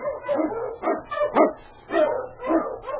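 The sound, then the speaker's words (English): A sled dog, the Wonder Dog King of Sergeant Preston, an Eskimo League dog blazing the trail through storm and snow in the Yukon, barks and yips excitedly in a rapid, uneven series of about five or six loud calls, with no voices present. “The Wonder Dog King, swiftest and strongest of Eskimo League dogs, blazes the trail through storm and snow for Sergeant Preston as he meets a challenge of the Yukon.”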